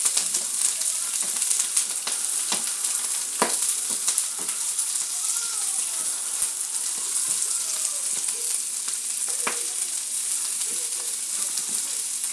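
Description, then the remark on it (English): Vegetables sizzle steadily while frying in a pan, a dense, loud, hissing crackle broken by scattered sharp pops and spits. No one speaks. “Oh, you don't chop them, you fry them like...”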